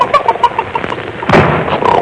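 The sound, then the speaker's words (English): A hen clucks softly in short, rhythmic bursts, then a door slams shut with a single loud, heavy bang that rings briefly before fading. “I slammed the door.”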